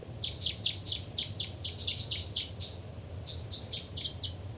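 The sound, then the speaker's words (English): A bird chitters in a rapid series of high, clipped notes, pauses briefly, then resumes with a shorter burst, all over a steady low rumble of background noise. “318 chitter.”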